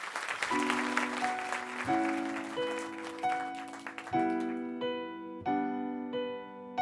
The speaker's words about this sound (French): interprétée par la jeune femme qui vient maintenant et que je demande d'applaudir une nouvelle fois.